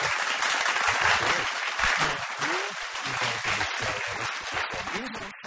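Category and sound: crowd, applause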